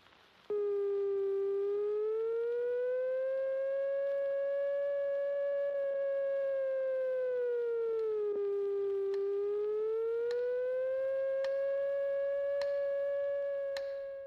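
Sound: air raid siren wailing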